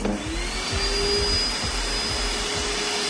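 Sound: vacuum cleaner running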